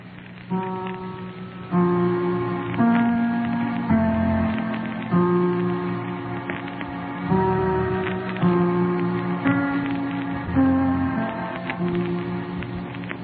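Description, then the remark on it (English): Steady rain on New Year's Eve patters and hisses throughout, blended under slow, sustained organ-like chords that change every second or so; no one speaks. “New Year's Eve again. And it's raining.”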